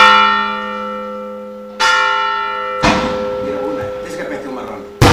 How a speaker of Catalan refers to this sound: Al punt de les dues, esclaten els morterets i les campanes comencen a repicar l'immemorial toc de festa.